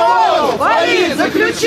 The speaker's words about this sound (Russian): Но зато слышали. Голос судьи в зале постоянно заглушали крики с улицы.